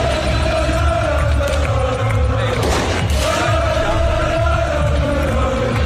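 A dense, loud crowd roars continuously, cheering and chanting, in the centre of Sint-Gilles as players appear on the town hall balcony after Union became Belgian champion with a 3-1 win over AA Gent, while bursts of fireworks crackle and thump through the din, with one sharp blast standing out midway.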